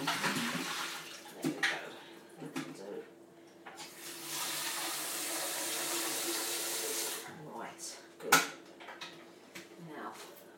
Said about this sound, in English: Right to the top. Nice cold water. Tip it upside down just to flush around the top. Empty.